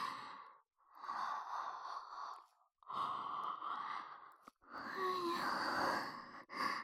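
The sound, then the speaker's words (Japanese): A long, breathy yawn drawn out over several seconds in a few broken exhalations, with a soft voiced, sighing tone swelling near the end and no speech. “私もあくび映っちゃった。”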